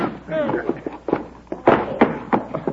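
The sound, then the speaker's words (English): A pistol-whip blow to the head: a series of sharp, dull thuds and slaps in an uneven rhythm, with a brief pained vocal cry near the start. “Pistol whip.”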